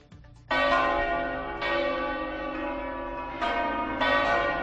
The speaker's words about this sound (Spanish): Así sonaron ayer las campanas en memoria de las 193 víctimas de los atentados del 11M.